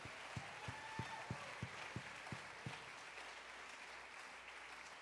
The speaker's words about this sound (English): Let's clap our hands. Everybody that loves authority, clap your hands.